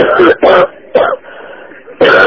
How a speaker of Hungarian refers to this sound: Mutasson, köhögjön egyet? Hát hallgasson.